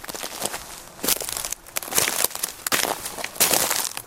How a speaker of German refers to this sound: Dürre Zweige knistern unter ihren Füßen, ausgetrocknete Blätter. Reiner Zunder.